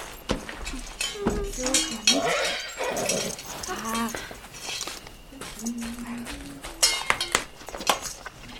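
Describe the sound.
Scattered metallic clinks of a pan and cutlery ring out at irregular intervals while a dog whimpers and low voices murmur underneath, as chili beans are cooked in a pan over a fire.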